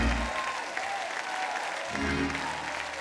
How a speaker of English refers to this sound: If you know what I'm talking about, put your hands together and clap unto the Lord and shout unto God with the voice of triumph.